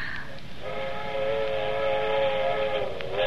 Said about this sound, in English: That's what I like best, them train whistles. To remind you of other places. You hear them all night. Don't you love the sound of it? It's scary, kind of.